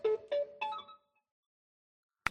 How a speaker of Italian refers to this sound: E arriva già la prima telefonata di oggi.